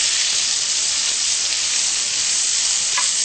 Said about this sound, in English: Okay, then we're going to add round onions in and stir fry this for a bit.